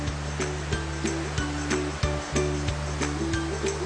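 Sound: water gushing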